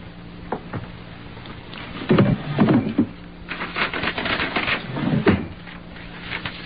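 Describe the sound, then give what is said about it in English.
A wooden drawer in the table by the window slides open with a scraping rattle, followed by knocks and shuffling as items (a pen and hotel writing paper) are handled, then slides shut again; fairly clear, with no voices. “In that drawer, the table by the window, there's a pen and some hotel writing paper. Go get it and sit there.”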